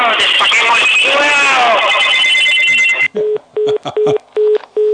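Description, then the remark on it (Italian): A telephone rings loudly and continuously for a few seconds, then cuts off into five short, evenly spaced electronic beeps, each with a faint click. “Hanno bloccato due telefoni.”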